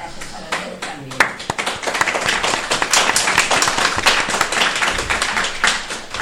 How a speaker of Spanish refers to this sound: O sea que un aplauso para vosotros.